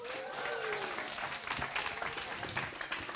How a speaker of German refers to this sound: Und euer Applaus für Amina.